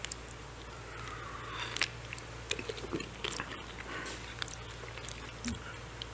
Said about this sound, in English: Maybe I better take a sip of water first. Maybe you can hear me.